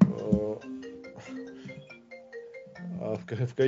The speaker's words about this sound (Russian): Просто ребенок получил телефон в подарок и теперь всем названивает.